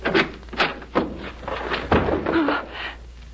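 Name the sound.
closet door opening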